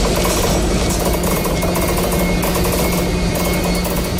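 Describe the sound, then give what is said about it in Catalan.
A derailed Talgo train grinds and squeals as it is removed from the track at Sitges, a loud, continuous harsh metallic scraping with a low steady hum underneath and no voices. “Així és com grinyolava el tren Talgo, que finalment ha pogut ser retirat de la via de Sitges, on havia descarrilat.”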